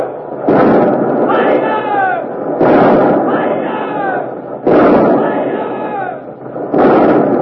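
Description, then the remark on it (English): Four heavy booming cannon blasts from the warship Revenge's port broadside guns (60-pounders, 30s, 18s and 9s), firing at the Armada, roll out at steady intervals, each a loud, rumbling burst of noise, while men shout and yell throughout. “the Revenge is dropping, turning broadside, showing her port guns to the Armada, the 60-pounders, the 30s, the 18s, the 9s. You'll hear all of them in a moment.”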